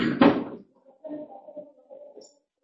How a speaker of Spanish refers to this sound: Bien, vamos a cerrar la puerta, por favor.